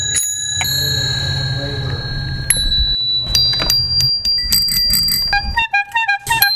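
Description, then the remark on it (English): Bicycle bells ring repeatedly in bright metallic dings, several overlapping with sustained shimmering tones, over a low rumbling background like street noise, then a quicker flurry of rings near the end. “Just so you can have a pull bell.”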